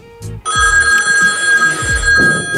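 A telephone bell rings loudly and continuously, a bright metallic trill sustained across the whole moment, with low thumps or handling noise underneath and no one speaking.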